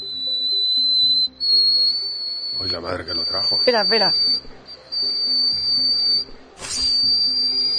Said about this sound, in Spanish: un récord Guinness, en la televisión china por dar la nota más alta, aguda, cantada, sí, nunca por un hombre. Este señor alcanza una octava. Ajá. Y atención, porque es capaz de romper cristales.